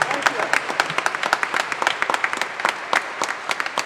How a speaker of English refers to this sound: Give God some praise this morning. A round of applause. Give God some praise this morning.